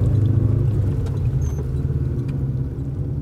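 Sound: car stopping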